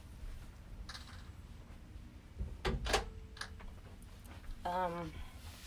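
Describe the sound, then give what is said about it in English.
A door that had been swinging is pushed shut with a solid thud and a brief rattle midway through, followed by a short squeaky, voice-like sound near the end. “Do you want me to close the door then?”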